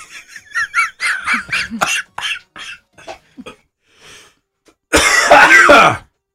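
A string of harsh, rapid coughs close to the mic, several in quick succession, trailing off before one final loud, raspy hack and throat-clearing burst.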